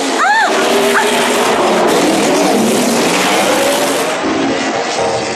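A loud motorcycle engine, running on RM fuel, roars and revs hard as the bike speeds toward a ramp jump. A quick rising whine at the start gives way to a dense, steady high-speed drone filling the whole stretch, intense.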